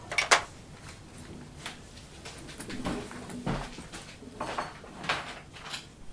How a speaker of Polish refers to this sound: Nóż ci spadł. O, popatrz. Myślałem, że tylko talerz. Noża nie zauważyłem. Usłyszałam go z pokoju.